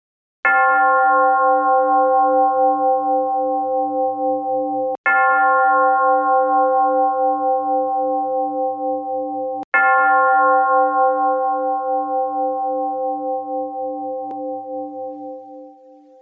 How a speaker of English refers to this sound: The session will begin and end with the sound of the gong. We will begin in a few seconds.